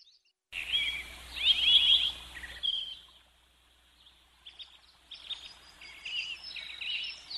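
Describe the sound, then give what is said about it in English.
Birds chirp and sing in a busy outdoor chorus, bright trills and tweets loud at first, a brief lull, then lighter scattered calls continuing. No one speaks. “Well, the birds flew in, so I guess it's my turn to be back, too.”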